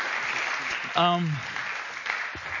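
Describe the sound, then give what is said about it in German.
Steady crowd applause for two people on stage fills the whole stretch, a dense, even patter of many clapping hands, with one brief falling whoop rising above it early on. “Einmal einen Applaus für euch beiden hier.”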